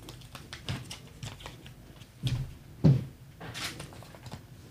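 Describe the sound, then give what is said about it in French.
Rustling of paper slips for a game, marked with numbers and categories, being picked and unfolded: soft crinkles and shuffles scattered throughout, with two sharper knocks midway. No one speaks. “Tu peux également prendre les tiens et nous dire ce qu'il y a sur ton papier, les chiffres et la rubrique.”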